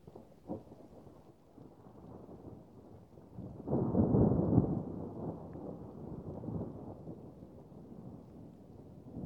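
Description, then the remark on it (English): Steady rain hisses throughout on a night in a forest while a low roll of thunder builds and swells in the middle before easing back into the downpour. No voices are present. “And yet, another rainy night in the middle of fucking nowhere.”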